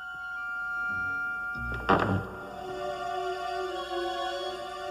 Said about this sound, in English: Suddenly, a sheet falls off of a cupboard, knocking pots and plates down.